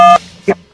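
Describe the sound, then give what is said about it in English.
A short, steady touch-tone beep from a phone keypad, about a fifth of a second long, followed by a brief burst of sound and another quick blip, over a quiet phone line while making selections in the Walt Disney World Resort job line phone tree. “Okay, I'm following the phone tree instructions Dashy gave me that didn't work.”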